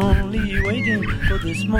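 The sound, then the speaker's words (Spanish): A person imitates a chick's high peeping with a few quick, rising and falling voiced chirps, close and fairly loud, over a busy background. “Pío, pío, no, eso vendría a ser un pollito.”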